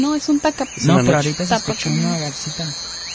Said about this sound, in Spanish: Vamos a simular la noche, porque estos sonidos de ahorita son de la noche. De hecho, ese que suena un poquito más fuerte, a mí es un tapacaminos, ¿no?